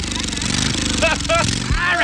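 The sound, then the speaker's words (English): A Harley-Davidson motorcycle engine with two bikers rumbles loudly, its pitch climbing in a couple of revs as it is cranked up, while voices shout over the din. “Okay, I got a couple of guys out here on a Harley-Davidson motorcycle.”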